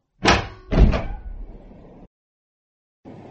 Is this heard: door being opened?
yes